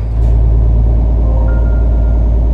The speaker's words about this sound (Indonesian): Barisan truk pelan-pelan semakin jauh meninggalkanku sendirian di pinggir rawa.